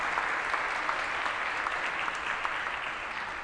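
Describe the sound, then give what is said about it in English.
A crowd applauds a correct trivia answer steadily, a dense wash of many hands clapping at an even level for several seconds with no voices standing out. “Let's hear it for a great answer.”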